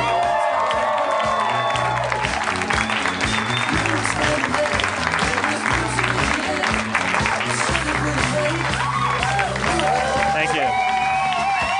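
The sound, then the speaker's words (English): A live audience at a Harmontown show on a Saturday night in Hollywood, California, applauds and cheers steadily for about twelve seconds as Dan Harmon is welcomed to the stage, dense clapping with scattered whoops and shouts rising over it, loud and sustained throughout. “You're applauding yourselves.”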